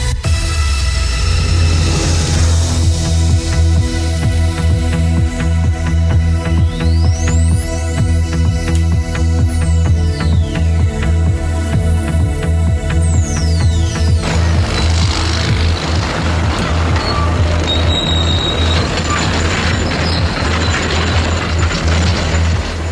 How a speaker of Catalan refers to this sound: Aquest és el so d'una construcció, d'unes obres de construcció, segurament per construir una casa i segurament per fer-ho amb ciment armat.